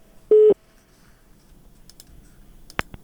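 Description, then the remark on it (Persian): A single short, loud telephone tone sounds as a listener's call to a Radio Azadi call-in show drops, followed by quiet line hiss and a couple of sharp clicks near the end. No one speaks. “بله تماسشان قطع شد.”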